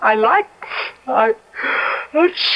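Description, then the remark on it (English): Three sneezes in a row, each a voiced, wavering intake followed by a loud, hissing burst of breath, falling into a quick steady rhythm with no talking. “God bless you.”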